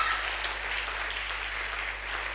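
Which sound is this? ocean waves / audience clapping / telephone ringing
audience clapping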